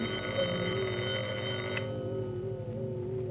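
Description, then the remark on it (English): A telephone rings with a steady, continuous bell tone that fills the whole moment, its bright metallic edge softening partway through; no one speaks over it. “Now, who is that calling me at these hours?”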